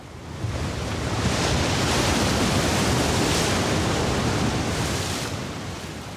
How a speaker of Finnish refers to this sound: Kuvittele itsesi seisomaan isoon aallokkoon meren rannalle. Ensin aalto paiskautuu päin ja työntää sinua kohti rantaa. Heti kohta meren voima muuttaa suuntaa ja virta imee sinua kohti ulappaa.